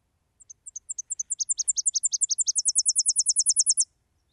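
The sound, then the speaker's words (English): A Tennessee warbler sings a high, dry, accelerating series of chips in three sections, starting with paired notes and ending in a rapid, louder trill, alone without voices. “This is a Tennessee warbler. If you hear this sound, that's what you're hearing.”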